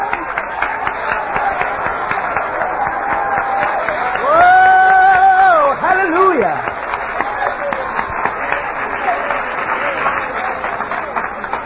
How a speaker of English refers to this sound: Clap your hands.